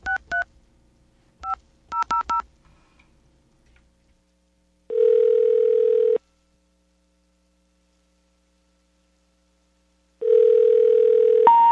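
Several quick touch-tone beeps dial a number in short bursts, followed by two long, steady phone tones separated by silence, all clear with no voices.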